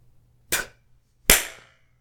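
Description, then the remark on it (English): Two sharp, bright spit slaps on skin, about a second apart. The second is louder, with a longer ringing tail. Otherwise only a low, steady hum. “I'm sure you liked that. That little spit slap.”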